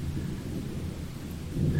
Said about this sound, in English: And I want to feel that even as the storm rages around us. I want the rain pounding down.